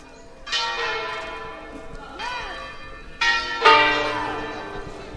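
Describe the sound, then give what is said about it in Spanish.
Church bells ring out in a series of loud, overlapping strikes, each leaving a long shimmering ring, with fresh peals landing at about half a second, two seconds, and three and a half seconds. “Sí, campanas y campanas nos ponen la casa como un tambor, sí, las campanas siempre.”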